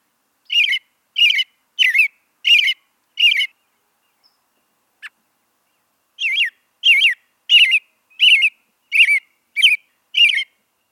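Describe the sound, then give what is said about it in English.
An American robin sings clear, whistled caroling phrases, five in a steady run, a brief pause, then seven more, bright with no voices. “So, what birds do you first think of as a harbinger of spring? Maybe the robin?”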